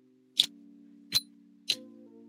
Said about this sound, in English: I can hear a little bit more now. Clicking, clicking. Mm-hmm. Clicking. It's a weird click. It's just a click.